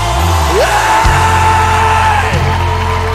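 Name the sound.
audience screaming and cheering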